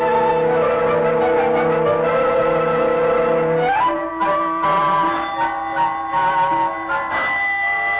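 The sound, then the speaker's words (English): A doorbell chimes loudly with sustained ringing tones, shifting to a second set of notes partway through and ringing on steadily with no voices present. “Oh, now why doesn't Mrs. Murchison answer that bell?”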